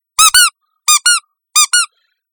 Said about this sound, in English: All right, I will be over here playing with my squeaky toy.